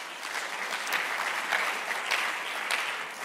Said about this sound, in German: Komm, wir geben uns mal gegenseitig einen riesen Applaus. Auch Leute aus Ansbach, Erlangen, wenn ihr dabei seid.